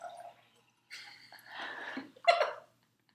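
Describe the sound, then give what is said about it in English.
Moist swallowing and gulping sounds come in a few short bursts, with a brief pause and then a final louder gulp, as a person drinks water. “grabbing some water”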